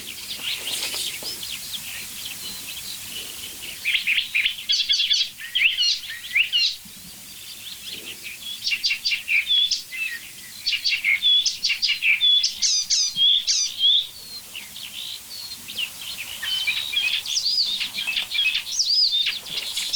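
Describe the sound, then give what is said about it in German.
A single bird chirps and calls continuously, a busy run of high, squeaky notes and rapid twittering phrases, fairly loud, with no talking. “Alles ein Vogel.”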